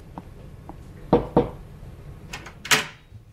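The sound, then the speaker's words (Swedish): Two firm, quick knocks on a doctor's door ring out in a quiet moment, followed shortly by a softer, brief clatter. No one speaks. “Knacka på hans dörr igen och fråga.”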